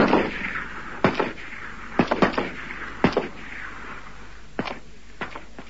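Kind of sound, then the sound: sound effect, several gunshots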